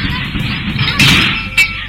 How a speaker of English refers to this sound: some huge metal thing knocks her in the head